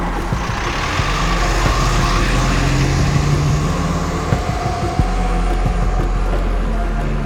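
A bus's engine rumbles loudly and steadily as it pulls away, with a deep droning roar and road noise; no one speaks.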